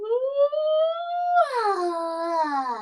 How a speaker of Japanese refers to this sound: あくびが出る。